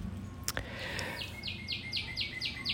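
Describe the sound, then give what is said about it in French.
Birds sing in Montreal on a sunny summer day in July 2022, a quick repeated series of bright chirping notes in a steady rhythm, with a few sharper calls early on over a low background hum. “Oh là là, ils n'arrêtent pas de chanter.”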